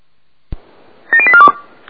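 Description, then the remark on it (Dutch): A click is followed by a rapid run of about seven short electronic keypad tones, each a steady dual-pitched beep, dialed in quick succession on a telephone. “Nou, ik sta met de telefoon in mijn handen. Ik ga u bellen over.”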